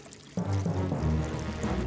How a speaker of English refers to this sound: I can use that bucket to bail out the water!